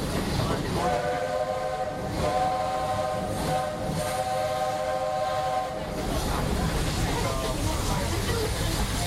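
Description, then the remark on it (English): A steam train at the Magic Kingdom theme park rumbles and chugs steadily while its whistle blows one long, loud, steady blast for several seconds, then the engine keeps churning on alone. “As for me, I'll stay safe and sound right here aboard my train, if you don't mind.”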